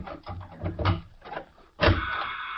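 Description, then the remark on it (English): A run of metallic clicks and rattles as the lock of a steel door to a small laboratory is worked, then a sudden loud clunk at about two seconds as the heavy door swings open, followed by a sustained scraping rush. “There's a small laboratory behind that steel door where I do my most important work.”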